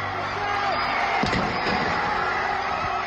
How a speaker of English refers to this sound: Cries of celebration rang out from the crowd as the Colston statue was toppled, pulled from its plinth to come crashing onto the ground below.